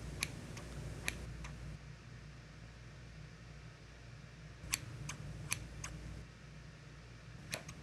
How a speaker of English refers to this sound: I always found getting my hair cut so relaxing. Hearing the sound of the scissors, it always makes me feel so comfortable, like I could fall asleep, all while knowing I'm being taken care of.